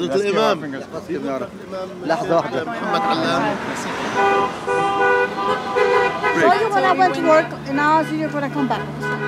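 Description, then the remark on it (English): Car horns honk repeatedly from vehicles driving by in southwest Brooklyn, long sustained blasts and shorter toots overlapping amid street noise, with people talking and cheering underneath. “Cars were driving by, honking their horns for him.”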